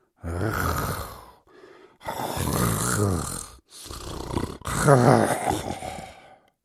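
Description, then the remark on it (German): Loud, rasping snores from a man asleep on his back in a bedroom, several long saw-like breaths in a steady rhythm with short quiet gaps between them, rough and rumbling with no talking. “Vater liegt auf dem Rücken. Er schnarcht. Was für ein komisches Geräusch. Wie eine Säge.”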